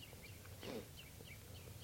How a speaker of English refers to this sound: the birds are just perched here for a long time giving alarm calls to each other and now they're giving chitter notes.